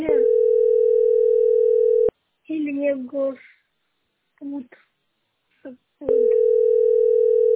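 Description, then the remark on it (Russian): A steady telephone ringback tone sounds for about two seconds, pauses while a person speaks briefly, then starts again, loud, as a mother's outgoing call waits to be answered. “Звонит мама, видишь?”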